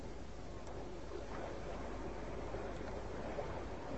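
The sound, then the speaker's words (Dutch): A steady, low rushing roar of sea waves in the distance, heard outside a dark house, continuous and even with no distinct breaks, heard alone without any voices. “Dat is de zee die je hoort.”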